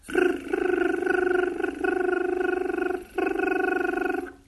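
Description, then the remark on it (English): A single voice chants the mantra R, a sustained, buzzy syllable that whines like a high-pitched engine, held in three long stretches with brief breaks and a faint pulsing texture. “And then the mantra R, that sounds like a very high pitch engine.”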